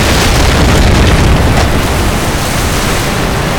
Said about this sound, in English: All the men looked up as the spot that had been glowing erupted out of the face of the dam like a lava explosion.